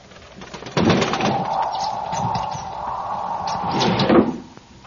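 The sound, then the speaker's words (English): A bird of unknown kind, driven by the wind to shelter on the window sill at night, flutters and taps against the window with scattered irregular knocks and wing flurries over a steady windy rush lasting a few seconds before fading. “It was a bird. What kind, I could not tell. The wind must have driven it to shelter on the sill.”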